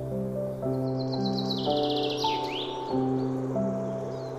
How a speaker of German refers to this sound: Die Geräusche des Waldes strömen in deine Ohren. Das Zwitschern der Vögel.